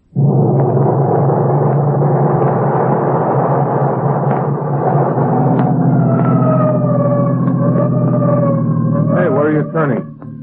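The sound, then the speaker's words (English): A siren wails over a loud, steady engine rumble, its sweeping tone rising and falling from midway through and climbing sharply near the end. “So why the siren?”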